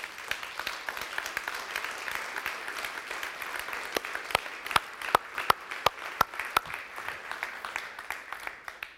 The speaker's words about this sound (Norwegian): Men kan vi ikke bare gi Jesus en god applaus for en tjenestegave som Arnfinn?